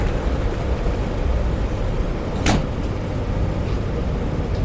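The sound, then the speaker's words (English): Steady low rumble of a moving passenger train, with a single sharp thud partway through as the train doors shut, then the rumbling continues evenly with no voices. “Step back. Door's closing.”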